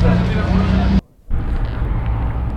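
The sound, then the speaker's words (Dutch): A bus carrying 60 demonstrators rumbles loudly as it pulls away on a Thursday evening, followed by two police Golf cars escorting it out of the city; a deep steady drone broken by a brief silence before the heavy motor noise returns with faint indistinct voices in the background. “De bus met demonstranten vertrekt en er schieten twee golfjes van de politie achter.”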